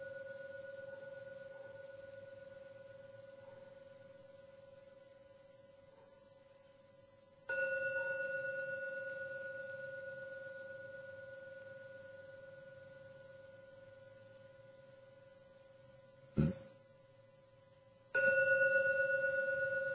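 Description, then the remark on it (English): A meditation gong is rung three times to end a meditation, each strike swelling into a sustained, shimmering tone that slowly fades before the next. It sounds clear, with no voices. “And only after the 3rd ringing of the gong fades away, only then open your eyes to end the meditation.”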